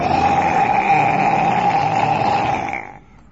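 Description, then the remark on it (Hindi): A lion's roar, one long, loud, rough growl held steady for nearly three seconds before it quickly tails off, as the lion chases a deer that has jumped across a river. No one speaks. “As it was just over river, the lion began to roar.”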